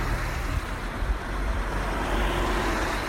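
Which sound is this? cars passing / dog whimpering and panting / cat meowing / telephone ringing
cars passing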